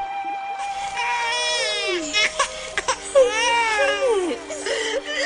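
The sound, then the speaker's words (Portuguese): An infant cries in insistent wails, two long rising-and-falling bursts separated by short broken sobs, loud and alone with no talking: a baby boy found in a basket among reeds by a river. “E viu um bebê chorando.”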